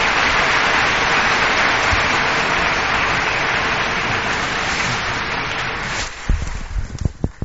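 Sustained crowd applause, dense and steady for about six seconds, then thinning into a few scattered claps as it dies away; audience welcoming pastor Stephen Tong at the annual faith lecture in Singapore.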